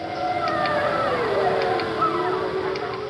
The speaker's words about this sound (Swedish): Ja, det är ju svårt att missa vad det är vi hör här. Visst är det fler än 2 vargar. Ja, det stämmer. Ljudet har spelats in av hästägaren Annes dotter utanför hästhagen. Och det är inte bara 2 vargar, det är en hel vargfamilj.